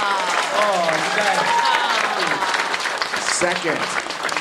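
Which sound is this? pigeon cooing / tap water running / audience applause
audience applause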